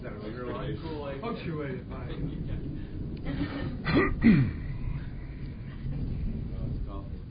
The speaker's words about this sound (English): I gotta stop. I can't. This can't work. I'm gonna just start in a real bad cough here in a minute.